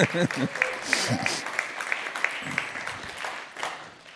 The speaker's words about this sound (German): Danke, Technikteam. Ihr dürft einen Applaus geben.